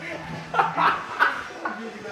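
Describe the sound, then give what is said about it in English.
A person imitates a dog barking, letting out about four short, yappy vocal bursts in an irregular rhythm that edge toward laughter. “Why are you turning to a dog?”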